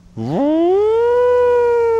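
An air-raid siren winds up from a low growl to a loud, steady wail that holds for a couple of seconds, prominent with no voices.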